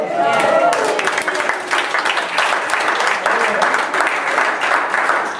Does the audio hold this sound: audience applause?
yes